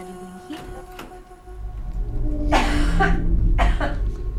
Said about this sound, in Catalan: La tos de fons